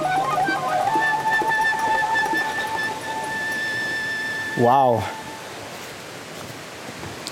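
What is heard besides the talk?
rushing waterfall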